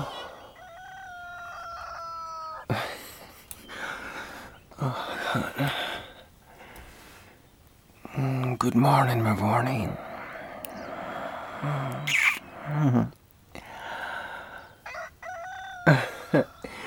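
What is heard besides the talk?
rooster crowing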